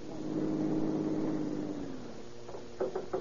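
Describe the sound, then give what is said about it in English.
A car engine hums steadily, then its pitch drops as the car, driven over a field in a lonely area, slows and stops at the bottom of a steep hill, followed by a few short clunks at the end. No voices. “At the bottom of the hill, he stops his car and waits for Captain Chitwood.”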